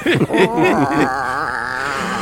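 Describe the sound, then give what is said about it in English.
A cat yelps loudly: a few short, sharp cries, then one long wavering yowl that quavers in pitch and trails off, with no one talking. “That cat yelp.”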